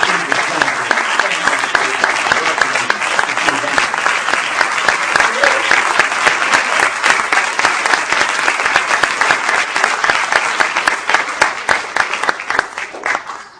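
A large audience at a press gathering applauds steadily for over ten seconds, a dense wash of many hands clapping at once, loud and sustained before tapering slightly at the end.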